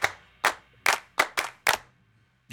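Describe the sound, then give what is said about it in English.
Six sharp hand claps in a slightly uneven rhythm, each a crisp, bright slap that fades quickly, with brief quiet gaps between them and no voices. “If you know that Jesus loves you, clap your hands.”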